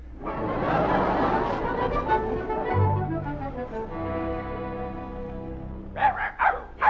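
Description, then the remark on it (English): A dog makes drawn-out, gliding whining tones, then lets out three quick, sharp barks at the end, fairly loud, with no talking. “Bring in the mutt.”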